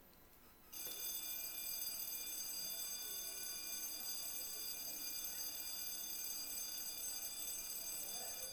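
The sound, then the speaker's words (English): A dinner bell starts ringing after a brief pause and keeps going, a loud, steady, shrill ring that continues without a break to the end, with no voices. “That's probably the dinner bell.”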